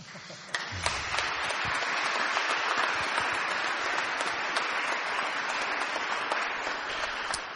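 A crowd applauds steadily for several seconds at a farewell event, a dense wash of many hands clapping at an even, sustained loudness with a few sharper individual claps standing out.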